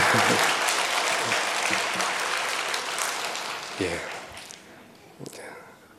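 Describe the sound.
A crowd claps steadily in a dense burst of applause that gradually thins and fades, with a few low voice fragments near the end.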